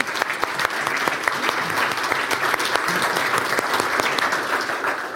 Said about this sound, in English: I think we should give, they're in the room, I think we should give them a hand of applause.